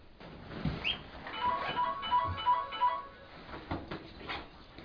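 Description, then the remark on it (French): A mobile phone rings with a short run of five evenly spaced electronic beeps, moderately loud, with faint background rustling and a soft thump just before. “Oui, c'est mieux que vous fermiez vos portables. Parce que si vous chacun garde son portable, on sera interrompu toutes les 4 secondes à peu près.”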